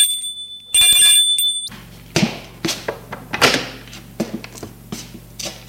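A doorbell rings once at the door of a home with a loud, steady buzzing tone for about a second, followed by several thuds and knocks, like a door being handled, over a low background hum.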